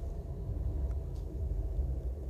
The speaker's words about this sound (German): Die Straßenbahn hat ihn verstanden. Ich hoffe, man hat es auf der Aufnahme gehört. Das war ein besseres Grillenzirpen. Ja, das war wirklich eine Art, besser als Grillenzirpen eigentlich.